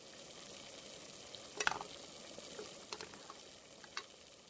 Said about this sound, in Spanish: Vamos batiendo para evitar que el chocolate se pegue y se queme y en minutos ya estará líquido y listo para nuestro postre.